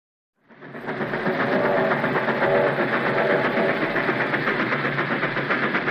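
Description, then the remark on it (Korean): A Trans-Siberian Railway train, boarded at Vladivostok Station, rumbles steadily along the rails after a sudden start, a loud, continuous roar with a faint rhythmic clatter running underneath, sustained with no voices. “가까스로 5월 21일 블라디보스토크역에서 시베리아 횡단열차에 몸을 씻고 하얼빈을 지나 이르쿠츠크를 경유해 장장 보름을 달려 6월 4일 상트페테르부르크에 닿는다.”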